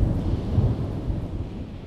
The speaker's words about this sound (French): Un coup de tonnerre éclate puis s'estompe suivi de son écho. Après une courte pause, zébrée par des éclairs, un nouveau grondement retentit et se répercute dans l'écho. Cela se répète.